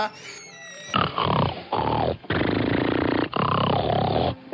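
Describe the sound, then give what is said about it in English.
After a brief high, tonal jingle, a man snores four loud, drawn-out times one after another with short pauses between them: rough, grunting, pig-like rasps that sound vocalized by a person. “He just snores so lovely.”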